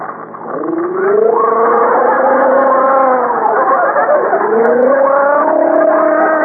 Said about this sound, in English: Take some hot water. Let's take some hot water and salt and gargle. It'll do you good.